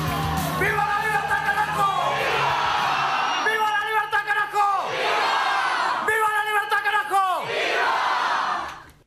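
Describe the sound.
A crowd at an Argentine political rally roars with sustained cheering while a voice shouts in bursts over it, calling out the Spanish campaign slogan "Viva la libertad, carajo". The chanting and yelling stay loud and dense throughout before cutting off.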